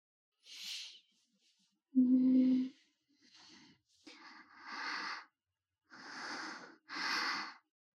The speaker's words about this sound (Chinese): 呼吸声好像变粗了，频率也比刚刚快了，感觉你有点性感。